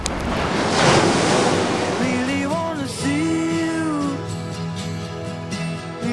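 Sea waves surge and break on a shore in a loud, rushing wash. After a couple of seconds a gliding melodic tune rises over the continuing roar of the surf.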